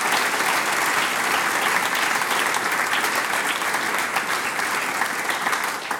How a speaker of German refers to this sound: Applaus für unsere Damen und Herren.